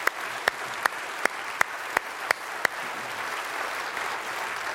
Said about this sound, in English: Friends, will you recognize Pastor Tom's place of honor as a spiritual leader in this church community by responding yet again with your applause?